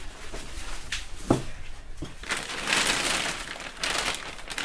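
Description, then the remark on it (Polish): A plastic shopping bag crinkles and rustles in irregular bursts, with a few sharper crackles and a louder stretch of rustling near the end; no one speaks. “A, i reklamówka w środku.”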